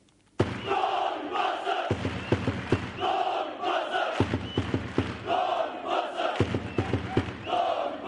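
A large crowd of sports fans in Novi Pazar, the town on the Jošanica, chants loudly in unison, voices rising and falling in a steady rhythmic cheer that starts abruptly after a brief silence and continues throughout.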